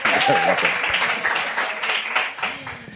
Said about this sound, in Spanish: ¡Fuerte aplauso! Gracias.